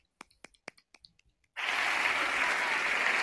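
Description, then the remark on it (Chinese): A handful of scattered, separate claps, then a sudden burst of loud, dense applause that holds steady to the end, a canned clapping sound effect played at midnight on New Year. “哇，鼓掌三角来了，好干， 久违了的鼓掌特效。”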